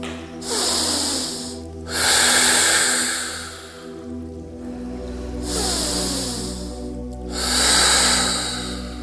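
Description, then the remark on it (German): Slow, deep breaths drawn in and let out, about two full cycles, close and clearly audible, with a soft sustained musical drone underneath and no talking. “Du atmest ganz bewusst tief ein und aus.”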